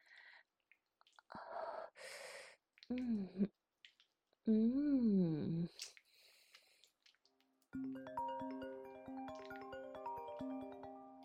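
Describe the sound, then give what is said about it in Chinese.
A telephone rings with a bright melodic ringtone of stepped electronic notes that plays steadily through the last few seconds, preceded by breathy gasps and strained vocal noises. “谁呀？这个时候打电话来，真讨厌。”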